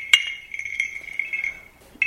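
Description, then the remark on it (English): Handmade clay bells, made by the player, ring with bright, high clinks: a sharp strike at the start, lighter taps through the middle, and another clear strike at the end, each leaving a sustained, shimmering tone. “I have bells, clay bells I did myself.”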